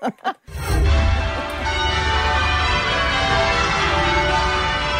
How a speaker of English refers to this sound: Oh. These are the bells they ring. This is so nice. Oh, cowbell. He needs the cowbell. Okay, that is the cowbells that ring.